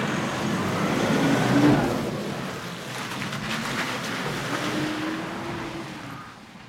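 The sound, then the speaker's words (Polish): A car engine, just started after the battery was connected, rumbles as the car drives out of a garage, heading east, swelling louder in the first couple of seconds and then settling into a steady idle-like drone, with no voices. “Auto wyjeżdża z naszego garażu, no i generalnie będzie jechał już na wschód.”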